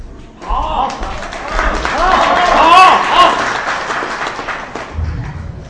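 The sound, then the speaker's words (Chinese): Sustained audience applause at a xiangsheng (crosstalk) performance, dense and steady, with cheering voices mixed in; it swells to a peak midway and then gradually eases off. “谢谢掌声鼓励啊！”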